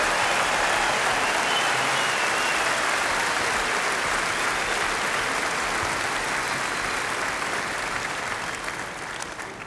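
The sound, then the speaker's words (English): A dense, sustained burst of audience applause for gospel singers performing with an orchestra, many hands clapping in a steady crackling roar that holds loud for nearly ten seconds before beginning to taper slightly at the end. “Applaud the golden voices of gospel.”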